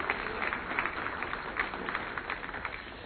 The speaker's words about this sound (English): So give him a big round of applause, too, if you will.